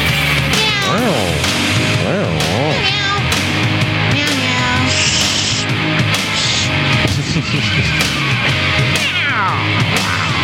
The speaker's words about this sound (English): Okay, so now my cat's looking at me. Well, now my dog's looking at me too. Why are you meowing? Stop it. Stop it right now.